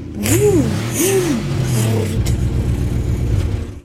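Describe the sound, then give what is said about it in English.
A truck engine revs loudly twice, its pitch swooping up and back down, then settles into a steady, rumbling idle with a pulsing chug, as someone gets into a truck in a garage. “Hopping into my time truck.”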